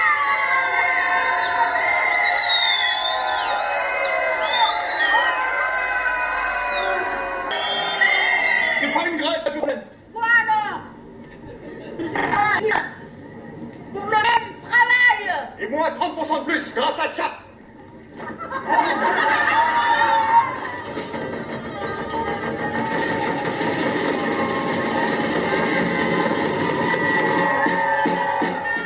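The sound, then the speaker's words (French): A crowd of 200 or 300 women in the courtyard of an apartment building celebrates the anniversary of equality, filling the air with overlapping chatter, laughter and festive shouting, loud and continuous, with bursts of cheering and high, excited voices. “elles sont 200 ou 300 à avoir délaissé aspirateur ou machine à écrire pour fêter l'anniversaire de l'égalité.”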